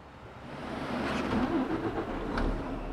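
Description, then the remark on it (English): A heavy truck engine rumbles steadily as a big rig drives on the road, a low droning hum with road noise, its pitch rising slightly as it accelerates, continuous with no voices. “Think about all those huge trucks on the road.”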